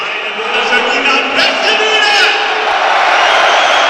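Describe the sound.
A stadium crowd at the Schüko Arena (the Alm) in Bielefeld chants in call-and-response, one shouting and many answering, minutes before a match. It is a dense, steady roar of many voices that stays loud throughout, with a few higher shouts rising briefly above the mass.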